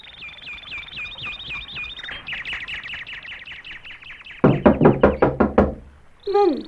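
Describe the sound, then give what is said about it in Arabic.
A series of about seven loud, sharp knocks on a wooden door in quick succession, following repeated high chirping tones and ending with a brief electronic beep. “من الطارق؟ انتظر قليلا.”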